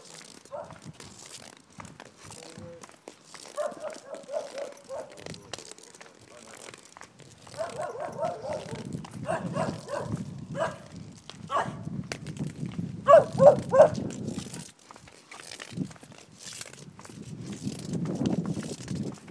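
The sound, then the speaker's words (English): A dog barks in a few short, repeated bursts, loudest near the end, over steady wind rumble and crinkling, rustling noise. “Well, there's another woofer.”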